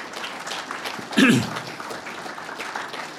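An audience at a convention applauds steadily throughout, a dense wash of clapping hands, with a brief louder vocal whoop or cheer rising out of it early on.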